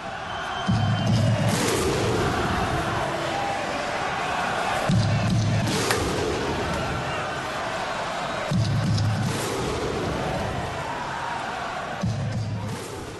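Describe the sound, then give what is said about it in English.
A huge stadium crowd of about 21,500, mostly Raiders supporters, performs a Viking clap at a Raiders versus Panthers NRL finals game in Canberra: four slow, thunderous unison claps with a deep shouted grunt, spaced several seconds apart over a constant roar of crowd noise. “The Viking clap.”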